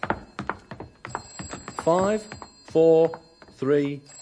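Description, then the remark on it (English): A telephone rings in three loud, warbling bursts with short pauses between them, following a moment of people talking. “Then it'll stop ringing.”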